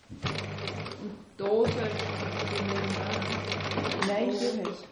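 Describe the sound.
A sewing machine runs in two steady bursts, a brief pause between them, its mechanical whir and rapid stitching rattle close and fairly loud, with low humming tones and faint background voices.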